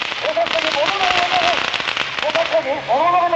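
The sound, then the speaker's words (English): A dense, rapid crackle of firecrackers lit by actors playing hooligans as they storm the field during a Japanese police riot training exercise in Yokohama, popping continuously outdoors, with shouting voices rising over the bursts partway through. “On cue, actors playing the part of hooligans storm the field, lighting firecrackers, running wildly, and in general doing a good imitation of real live hooligans.”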